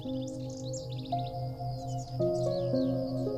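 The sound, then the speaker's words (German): Rapid, bright chirps and trills of a blue tit flying away flutter high above a soft, steady musical drone, the bird calling in quick bursts throughout without anyone speaking. “Und damit fliegt er zwitschernd davon.”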